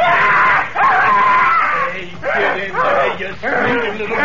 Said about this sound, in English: Get in there, you screaming little monkey man.